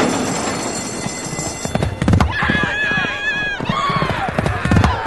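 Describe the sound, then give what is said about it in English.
Hooves of the racehorse Eight to Fast to Catch clip-clop at a steady walking pace on a hard surface as it enters the winner's circle with its trainer on Maryland Million Day, fairly loud, with voices murmuring in the background. “Eight to Fast to Catch is entering the winner's circle with trainer ….”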